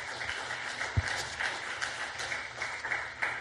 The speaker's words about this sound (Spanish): Una ofrenda de palmas al Dios de la gloria.